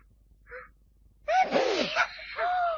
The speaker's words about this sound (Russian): Он чихнул, девочки. Очнулся. Очнулся.